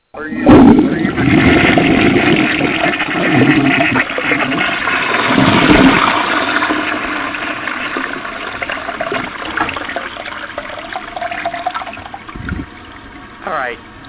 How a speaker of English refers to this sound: Uh-oh. Somebody, sound like somebody just flushed the toilet. That would be a neat sound, wouldn't it? What, a toilet flushing?